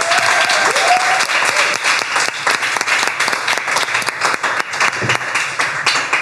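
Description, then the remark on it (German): An audience at the end of a stage play applauds steadily for several seconds, a dense, loud wash of many hands clapping with no clear individual rhythm, and a brief whistle rises early on. “Aber jetzt erstmal ein riesen Applaus für euch selber, fürs Kommen”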